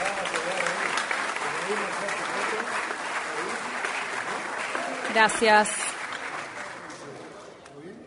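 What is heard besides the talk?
audience applause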